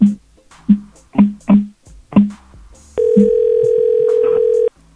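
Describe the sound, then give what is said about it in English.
A string of short, clipped bursts gives way to a loud, steady telephone dial tone that hums continuously for nearly two seconds, then cuts off abruptly. “Hey, could you fix the phone a little bit quieter? I'm trying to make calls here.”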